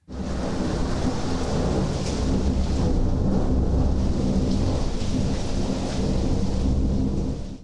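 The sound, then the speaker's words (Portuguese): A heavy thunderstorm roars steadily, with dense rain hissing and deep rumbling thunder rolling underneath, loud and close throughout with no voices. “Ao descobrir que a filha tinha ido para a superfície, o rei dos mares ficou furioso e agitou as águas com uma terrível tempestade, que logo atingiu o navio da princesa Melodia.”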